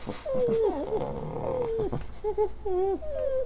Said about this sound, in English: Well, I can't understand a word those dogs are saying over there.